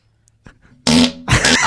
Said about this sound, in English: That's such a good fart. I love it. I can't wait to isolate it so I have it all day.